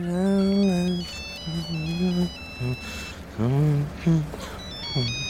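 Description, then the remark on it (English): A phone rings on a late-night call placed to check where someone is, with an electronic ringtone, a melody of stepped high beeping notes repeating over several seconds, accompanied by lower sustained, wavering tones underneath. “I remember rolling over and looking at the clock, and I thought, no, I'm going to give him a ring just to see where he is.”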